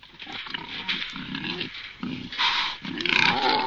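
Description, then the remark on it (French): Wild boar grunt and snuffle in a steady series of rough bursts while turning over the forest soil of the Bois des Lens searching for acorns or insects, with rustling and scraping of disturbed soil between the grunts and no voices present. “Au sol, les sangliers s'activent, retournant la terre à la recherche de glands ou d'insectes.”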